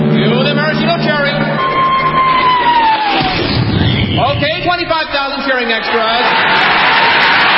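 A huge crowd of 25,000 extras roars and cheers loudly without pause, the din swelling throughout; partway through, a descending whistle gives way to a heavy thud as a 10-ton maraschino cherry, towed by the Royal Canadian Air Force, is dropped into whipped cream.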